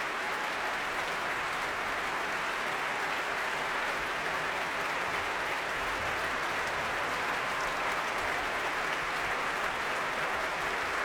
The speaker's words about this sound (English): The leader of the BBC Philharmonic, Yuri Torchinsky, on his feet now, applauding fellow members of this orchestra. Such a great atmosphere here today.